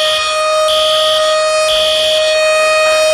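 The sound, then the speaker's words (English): A loud, steady electronic alarm siren sounded on The Anthony Gargano Show on 97.5 The Fanatic blares with sustained tones. A brighter pulsing layer cycles on and off about every second, with no voices. “Andrew, sound the alarm.”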